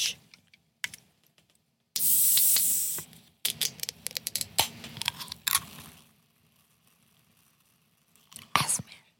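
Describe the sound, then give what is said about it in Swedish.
A can is cracked open, releasing a sharp burst of fizzing hiss that fades after about a second, followed by scattered small clicks and handling noises. “Alltså, när jag öppnade den här burken”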